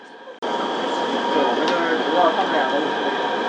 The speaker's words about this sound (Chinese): 欢迎乘坐地铁昌平线列车。列车运行前方是拱华城站，远途的乘客请往车厢中部走，下车的乘客请提前做好准备。